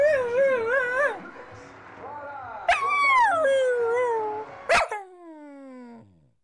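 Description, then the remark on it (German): A dog whimpers in high, wavering whines, broken by a couple of sharp yips, then trails off in a long falling whimper. No one speaks. “Ach, kümmere dich doch mal um den Hund hier.”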